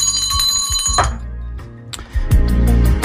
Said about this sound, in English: Self-indulgence klaxon bell.